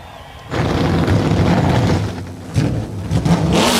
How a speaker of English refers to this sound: 38 Xfinity Series engines come to life down on pit road.